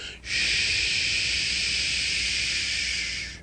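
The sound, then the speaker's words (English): A steady, bright hiss of carbonation bubbles escaping as a bottle of kombucha is opened, rushing out after a brief onset and holding for about three seconds, fairly loud, with no voices. “Well, upon opening the bottle, I heard the gentle hissing of bubbles rushing to find their way free.”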